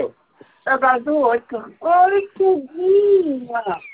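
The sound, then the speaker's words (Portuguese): A baby cries in a series of short, whiny bursts that stretch into one longer wavering wail before trailing off into fussing. “pelo amor de Deus, ele tá chorando.”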